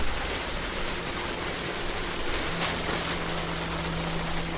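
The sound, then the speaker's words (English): A steady, rushing cascade of surf clam and quahog shells pours from a one-ton bag, hoisted by a crane on a 50-foot barge, into the Oyster River as crews untie its bottom, a dense splashing hiss that never lets up, with a low boat engine hum joining partway through. “Crews guide the bag to the edge, untie the bottom, and dump the shells into the Oyster River.”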